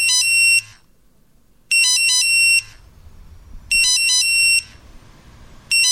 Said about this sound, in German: Wie Sie gerade gehört haben, unser Beeper ist gegangen. Und ich habe auf den Beeper geschaut.